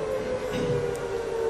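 An alarm siren sounds at 11 o'clock on Armistice Day during a church sermon, holding one steady, mid-pitched tone without a break, at an even, moderate level with no voices over it.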